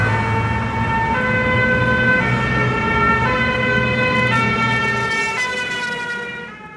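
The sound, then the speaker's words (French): Several sirens of security vehicles wail together with stacked, shifting tones, loud over the rumble of moving vehicles, as the new French defence minister's convoy arrives for an official visit to the construction site of the new defence ministry headquarters, fading slightly toward the end as the convoy passes. “Voilà, c'est avec grand renfort de sirènes et de véhicules de sécurité que le nouveau ministre de la Défense vient pour cette visite officielle du grand chantier de ce qu'on appelle le Balargone, le Pentagone à la française,”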